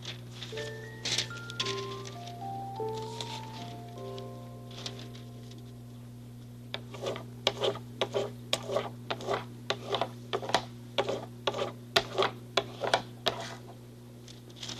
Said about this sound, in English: Let's try this one. Make a rubbing of it. Oops. I tore the paper because I rubbed it too hard. I'll try again.